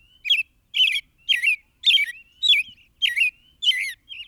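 american robin song

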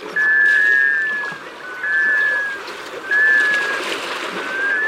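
male black scoter call

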